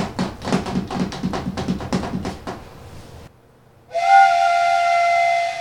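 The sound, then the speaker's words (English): A quick, steady run of tapping beats like a chugging engine, then after a brief pause a loud, sustained whistle, together imitating a train and its whistle, with no talking. “Or train.”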